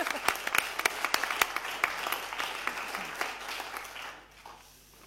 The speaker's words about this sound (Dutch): Ik zie geknik, dus dan wil ik per acclamatie deze leden vaststellen. En dan mag u best even voor klappen hoor.